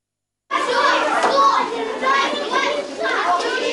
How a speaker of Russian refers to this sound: Работа кипит, в комнате шумно. Вдоль столов более полусотни ребят. Они формируют обеды для нуждающихся людей. Дети увлечены.